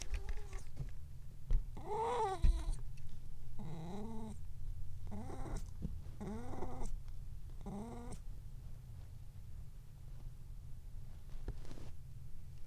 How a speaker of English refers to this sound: Well, we're getting some more wacky kitty sounds, but not as extreme as the wacky kitty sounds that we had.